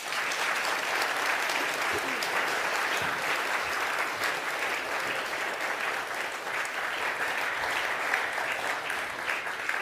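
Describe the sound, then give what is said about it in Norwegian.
An audience at the National Library of Norway (Nasjonalbiblioteket) claps steadily and densely for about ten seconds to welcome speakers, a loud, even wash of applause with no gaps and no voices standing out. “Gi dem alle en varm applaus.”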